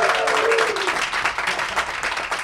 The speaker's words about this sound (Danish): Og jeg ved ikke, om de lige kan bare sådan, altså kan man lige sådan, kan vi få jer med sådan bare lige noget lyd, bare lige klappe eller huje eller et eller andet.